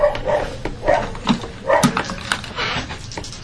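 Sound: puppy barking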